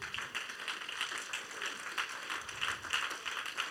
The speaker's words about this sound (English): Clap your hands for me.